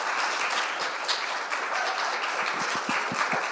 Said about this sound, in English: Thank you all for joining us to this wonderful session. Please, let's give a huge round of applause.